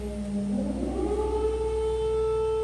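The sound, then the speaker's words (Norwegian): An air raid siren goes off in a street in Kyiv during a power outage, winding up from a low moan into a loud, sustained wailing tone with layered harmonics, holding steady pitch with no voices present. “Strømmen forsvinner mange steder, og det durer av ganske høy lyd fra disse aggregatene som gjør at butikker og restauranter, kaféer kan holde gående, og mens jeg gikk nedover denne gaten hvor vaskeriet holdt til, så gikk alarmen.”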